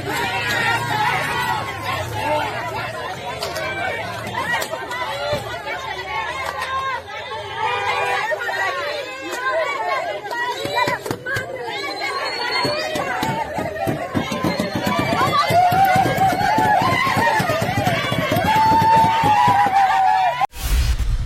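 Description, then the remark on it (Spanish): A loud, chaotic crowd of protesters mixes overlapping shouts, boos, jeers and babble with scuffling movement, with bottles and liquids thrown, as a woman leaves a court hearing. It is sustained and grows louder toward the end, with sharp whistle-like cries rising above the din. “Ayer a su salida de la audiencia, manifestantes la esperaron con abucheos, botellas y líquidos.”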